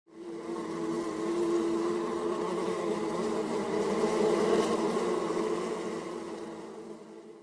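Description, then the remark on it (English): A steady drone of many bees buzzing together, a dense humming swarm that holds constant for several seconds with no voices present. “Joan starts to spend more time with the bees.”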